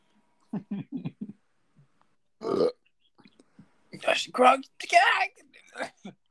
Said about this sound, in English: How many times do you idiots need to burp in here? Good grief. I haven't done it the whole time. It's over him. He's the one drinking fizzy things.